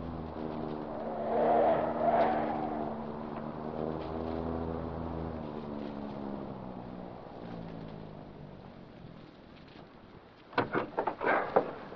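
A car engine hums steadily, then winds down as the car turns into an alley in the darkness, slows and comes to a stop, followed by a few sharp clunks and rattles near the end.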